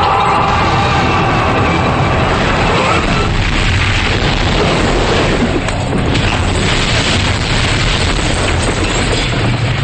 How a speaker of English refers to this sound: an enormous explosion sends fireballs shooting out the windows.